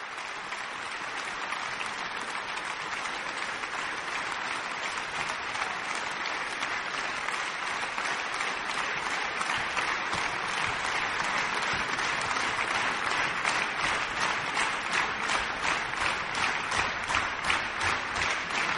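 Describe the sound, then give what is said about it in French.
Sustained, warm applause from a festival audience for a 16-year-old pianist after Bach's 14th Prelude, BWV 883, at the Festival de Radio France et Montpellier Languedoc-Roussillon; a dense steady patter of many hands clapping that swells slightly toward the end, with no voices over it. “Un petit retour sur le plateau, cela vaut vraiment, vraiment de chaleureux applaudissements.”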